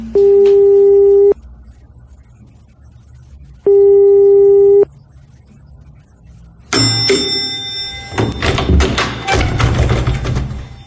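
A telephone ringback tone sounds twice, each a steady buzzing tone about a second long separated by a pause, then the line clicks open into clattering, rustling noise.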